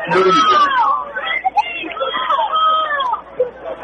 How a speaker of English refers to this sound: You can hear the Havasu faithful cheering their team on. Big third down play. Huge.